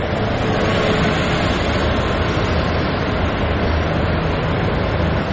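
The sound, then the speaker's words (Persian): A bus rolls by with a loud, steady engine rumble and broad road noise that holds evenly for several seconds, with no one talking. “الان ساعت چند داره اتوبوس رد میشه واقعا؟”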